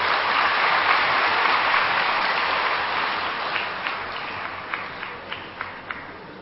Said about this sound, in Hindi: इस प्रकार से हम सब श्रेष्ठ पुरुषार्थ करेंगे तो ये बाप हमारे लिए ताली बजाएंगे। हम ताली बजाए वो अलग बात है